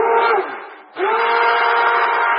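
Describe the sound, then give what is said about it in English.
A stick blender whirs loudly and steadily as it mixes soap batter after lye is added, its motor whine briefly dropping and dipping before surging back to full speed; no one speaks. “And again, you don't have to have a stick blender, but it sure helps.”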